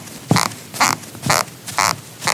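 Steady walking rhythm of squeaky shoes: dull low thumps alternate with bright, rubbery squeaks about every half second, five steps in all, fairly loud with no voices.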